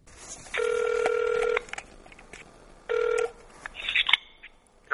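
Two ringback tones on a phone line during an outgoing call to a seller of salted napa cabbage, a long one lasting about a second followed by a shorter one after a pause, heard alone with faint background noise and a brief click near the end.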